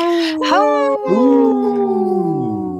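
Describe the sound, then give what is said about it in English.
A person imitates a wolf howl with long, sustained, wavering tones that slide in pitch, loud, lasting a few seconds without other talk. “But today I was focused because it didn't pop up, and my howl was there on target.”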